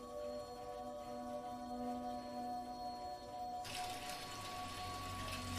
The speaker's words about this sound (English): He stops and looks up as he hears the running water.